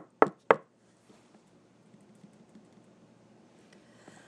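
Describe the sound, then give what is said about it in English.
Two sharp, loud knocks on a door in quick succession, distinct, followed by a quiet, low background hum with faint small noises. “The general nods, but is interrupted by a sharp tap at the door.”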